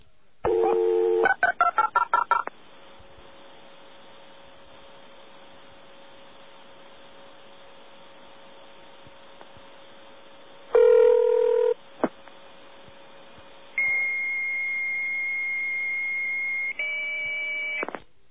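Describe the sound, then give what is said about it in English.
A quick run of touch-tone dialing beeps for a local call within Stony Brook to a line less than a mile away, then a long low line hum, one loud ring, and finally a steady high-pitched answering tone once a modem picks up. No talking. “Now, just to demonstrate it one more time, let's call from Stony Brook to Stony Brook one more time. To something that picks up, say a modem, okay?”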